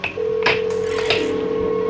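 A telephone being dialed: a steady line tone hums throughout while a few short, sharp key presses sound at uneven intervals, clear, with no voices.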